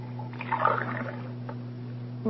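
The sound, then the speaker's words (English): Water runs briefly from a tap in a pantry into a glass, a soft splashing trickle lasting about a second over a steady low background hum, then fading out. “Sure, and I see you're careful about how you run the water.”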